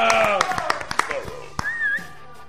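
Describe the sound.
A burst of live clapping done on the spot by the people present rather than a played-in applause effect, with sharp, uneven handclaps, mixed with cheering voices and a brief rising whistle-like tone toward the end.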